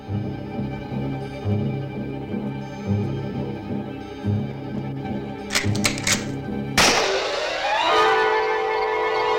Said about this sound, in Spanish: Ben le dispara en la frente.